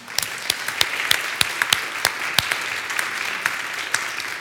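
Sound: audience applauding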